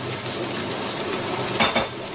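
Minced meat sizzles steadily in a hot wok, a dense, even crackle with a brief louder burst of stirring near the end. No one speaks.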